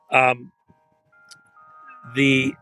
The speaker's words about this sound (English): And I apologize. I didn't expect the chimes here.